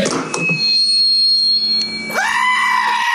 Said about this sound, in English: No, well, that was the goat. No karma, but a goat. Goat.